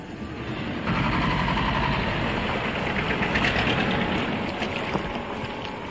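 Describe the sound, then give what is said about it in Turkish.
A tour boat's motor drones steadily and loudly on the way to Kız Kalesi, an island castle off the Korykos coast near Mersin, Turkey, its low rumble mixed with a broad wash of water and wind noise throughout, with no voices. “Hadi tekneye binelim de anlatmaya başla sen.”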